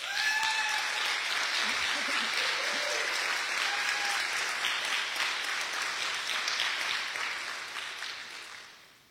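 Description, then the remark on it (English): An audience breaks into sustained applause for those who have served in any children's area since 2020: dense, steady clapping from many hands that stays loud for several seconds, then gradually fades toward the end, with a few faint voices mixed in. “So if you've served in any children's area since 2020, I want you guys to stand up and I want you guys to all give them a round of applause.”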